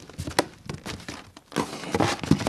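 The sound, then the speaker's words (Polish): Steady rustling and crinkling of a huge pile of paper book illustrations, taken from a box, being shuffled and handled, with sharper flicks and crackles scattered through, slightly busier toward the end, no voices. “Ogromny stos papierów.”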